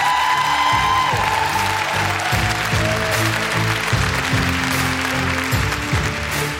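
An audience applauds steadily throughout, a dense, even wash of clapping that stays loud from start to finish, with music playing underneath.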